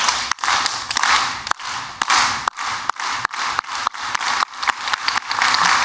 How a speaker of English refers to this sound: Just need you to get your hands like this. And we're just going to clap.